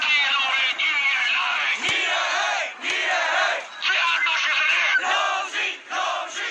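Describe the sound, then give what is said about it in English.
A large crowd of protesters in Yangon, Myanmar, chants loudly and continuously in the street, "We want justice and down with dictatorship," voices rising and falling in repeated rhythmic phrases with brief dips between them. “In Myanmar's largest city and commercial hub, Yangon, drivers honked in support of protesters, chanting, "We want justice and down with dictatorship."”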